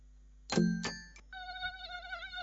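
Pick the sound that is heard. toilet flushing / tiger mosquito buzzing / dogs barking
tiger mosquito buzzing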